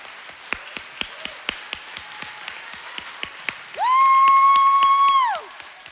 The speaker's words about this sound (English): Okay, the Lord says, don't be still. He said, celebrate. So let's just clap for God for that.